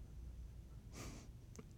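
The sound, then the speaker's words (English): A quiet yawn: one soft, breathy exhale lasting about a third of a second, followed by a couple of faint short sniffs, with no talking. “Look at that, a yawn.”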